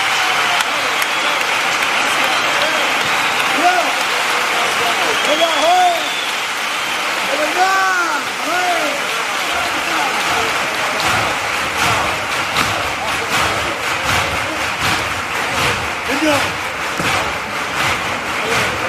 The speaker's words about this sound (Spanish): El remate siempre nos deja, bueno, pues con esa gana de levantarnos, aplaudir, evidentemente, como acaba de suceder con parte del público que estaba aquí